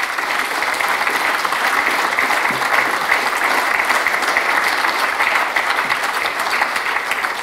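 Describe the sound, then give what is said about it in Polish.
Sustained audience applause from congress participants, a dense, steady wash of many hands clapping at an even loudness throughout, with no voices breaking through. “Brawo, dziękujemy bardzo.”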